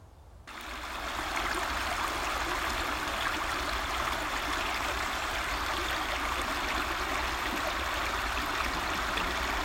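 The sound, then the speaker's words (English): A steady, continuous trickle of water running over rocks, an even babble of a small stream that holds the same level throughout with no voices. “The sound of it is quite calming in many ways, especially as it just trickles over the rocks.”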